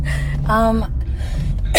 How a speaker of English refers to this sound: Oh wow, just great. Start one of your audios by coughing. It was 2 seconds in. My voice is super hella fucked up. I have a really, really shitty cold.